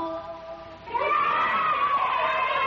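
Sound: children yelling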